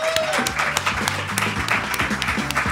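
An audience that came to a Radio Popolare broadcast applauds themselves in a dense, steady patter of many clapping hands with sharp individual claps scattered through, along with a few voices and faint cheers mixed in underneath.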